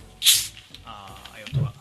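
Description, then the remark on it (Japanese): A sharp burst of fizzing hiss as a bottle of Wilkinson carbonated water releases its gas, fading quickly into a faint effervescent sizzle with soft voices murmuring underneath. “炭酸強めね。”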